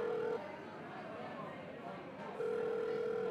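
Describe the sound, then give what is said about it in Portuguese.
A phone's ringback tone as a man calls a friend who has not yet arrived: a steady electronic beep that cuts off after a moment, a pause, then a second long beep, fairly clear over soft background murmur. “Ah, dá uma ligadinha para ele, vê se tá tudo bem, se ele ainda vem.”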